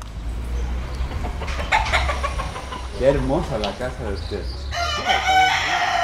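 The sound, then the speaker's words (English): Several fighting roosters, four of them tied to cinder blocks on the patio in front of a house in the town of Vega Alta, crow, their strained, overlapping calls rising one after another over a steady outdoor background hum, with a loud, bright crow ending the stretch. “On the patio in front of his house, he had four roosters tied to cinder blocks.”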